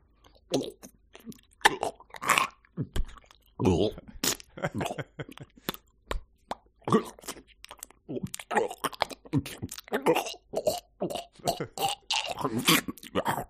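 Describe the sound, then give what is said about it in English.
A voice imitates gagging while gulping down a bucket of raw oysters: a dense run of wet pops, clicks, gurgles and rasping sucks, repeated in quick irregular bursts without any words. “Yes, the gagging I think is a key part of swallowing a bucket of raw oysters too.”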